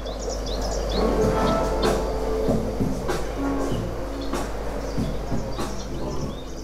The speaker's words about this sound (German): Vogelgezwitscher und Beats. Während Tel Aviv zurzeit eine riesige, staubige und laute Großbaustelle ist, findet man hinter den Türen des Asif im angesagten Süden der Stadt eine kleine Wellness-Oase.